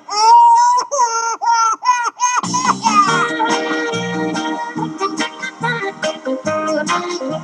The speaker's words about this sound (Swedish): Mein Girl hat keinen Tag für mich alleine Zeit, zum Küssen fehlt uns meistens die Gelegenheit, weil immer dann das Baby in der Wiege schreit